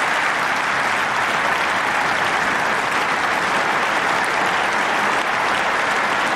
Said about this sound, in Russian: В начале речи члены Бундестага приветствовали украинского президента продолжительной овацией.